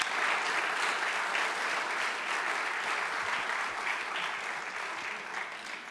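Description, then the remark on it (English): An audience claps steadily for several seconds for the youth who stood up and told what they had learned, a dense, even wash of many hands with no voices standing out, holding at a fairly constant loudness throughout. “How about we start by giving a round of applause to all those youth who had the bravery to stand up and tell us what they've learned.”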